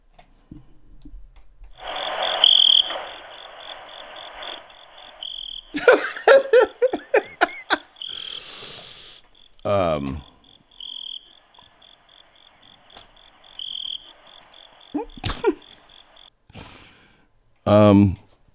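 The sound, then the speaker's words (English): Crickets chirping from a phone's speaker, a steady high-pitched pulsing trill running for several seconds while people laugh and talk loudly over it. “They're there. Love it. Crickets on the phone.”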